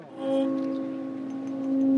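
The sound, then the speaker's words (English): A church bell named Denis is lightly tapped with a tiny mallet while tuning forks are held against it. It leaves a soft, steady ring of clear, sustained tones, with a predominant C sharp, that hum on for a couple of seconds and swell slightly at the end. “Putting his tuning forks against the bell named Denis, Sanger taps it with a tiny mallet.”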